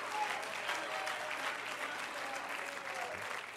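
An audience at an apostolic church claps steadily for several seconds, a dense, even wash of many hands with no breaks, holding a constant moderate loudness throughout.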